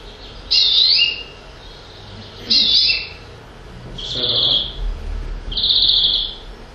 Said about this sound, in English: Greenfinch. Distinct flourish at the end.